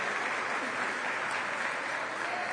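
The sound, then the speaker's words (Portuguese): A church audience applauds for Jesus during a sermon, a dense, even wash of many hands clapping at a constant loudness with no distinct rhythm and no voices standing out. “Quem pode dar um aplauso para Ele?”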